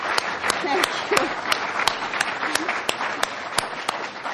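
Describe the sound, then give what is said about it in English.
An audience at a Commonwealth Club event breaks into steady applause to thank the host, many hands clapping in a dense, continuous wash with a few sharper individual claps standing out, and faint voices murmuring underneath. “And perhaps since it is the last, we should give you a bit of a round of applause to thank you for that.”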